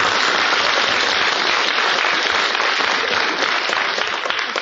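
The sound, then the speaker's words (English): A crowd claps steadily and loudly, a dense wash of many hands that holds at full strength for several seconds without easing off. “I deserve that applause because I fought the Battle of Catalina.”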